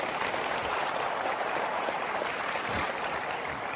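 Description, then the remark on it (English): An audience claps steadily, a dense, even wash of many hands with no break and no voices standing out, holding at a constant loud level throughout. “Now you can clap.”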